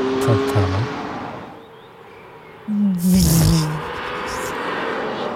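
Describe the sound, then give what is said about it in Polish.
A Mercedes-AMG Project One hypercar engine idles with a low rumble, then revs sharply in one loud burst with a hissing, whooshing turbo rush before settling back to a steady drone. “Ale głównie słychać turbo, nie uważasz? W sensie słychać ten silnik, ale przede wszystkim słychać turbo.”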